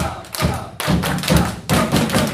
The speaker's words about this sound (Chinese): 先学习一下怎么拍拍手啊，一会儿我说，神的儿女们呐、啊，拍拍手赞美主，然后呢，我就开始拍手。